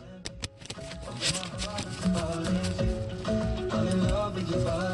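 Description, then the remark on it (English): A deck of cards being given a last shuffle before cards are drawn, a quick run of crisp, riffling clicks and flutters, heard over a steady tonal background that sounds like soft music. “All right, last shuffle.”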